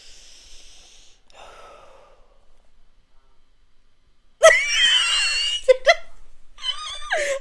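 Geese honk outside in a burst of loud, harsh, nasal calls that overlap and repeat in quick succession, following a few seconds of near quiet with faint breathy noise.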